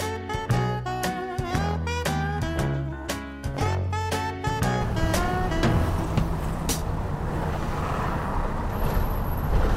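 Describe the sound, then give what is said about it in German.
Heavy car traffic roars steadily over the historic cobblestones of the eight-lane Champs-Élysées in Paris, loud, with sustained horn-like tones and a hissing brake sound in the first half before the dense rumble takes over. “Heute ist Autolärm der dominierende Sound der Champs-Élysées. Achtspurig donnern die Autos über das historische Kopfsteinpflaster.”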